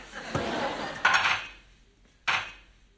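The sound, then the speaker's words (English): Dishes and cutlery clatter in three separate bursts as the dishes are washed, each a sharp clink that rings briefly before fading, with quiet pauses between them. “You know, and then I'm going to do the dishes now.”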